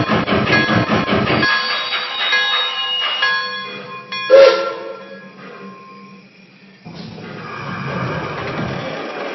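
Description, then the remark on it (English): A steam train, train number 4, the Abraham Lincoln, announced at St. Louis on track number 2, chugs along the tracks with loud rhythmic chuffing, then eases into a steady mechanical rumble with a brief sharp hiss before the noise swells again. “St. Louis, on track number 2, train number 4, the Abraham Lincoln.”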